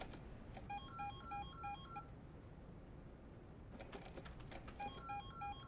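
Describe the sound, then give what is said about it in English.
A telephone rings in two bursts of rapid, warbling electronic tones separated by a pause, clear over a steady hiss of background noise, with no one speaking. “Would you mind answering the phone, please?”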